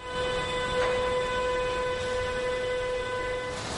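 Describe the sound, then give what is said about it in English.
A train rolls past on the tracks, a steady rumbling wash of noise with a sustained, whistling metallic tone running through it the whole time, constant, with no voices. “Trains now travel between Germany and China 5 times a week.”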